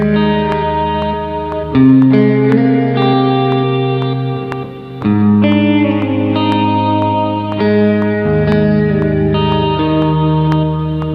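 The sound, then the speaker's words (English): Sustained guitar chords played through a reverb pedal, each strum blooming into a thick, lingering wash that overlaps the next change. Loud, no voices, with a slow rhythm of chord shifts. “Just the right amount of tail, of thickness, and especially with stuff I play with my fingers, it's perfect, and things that I pick, it's pretty nice as well.”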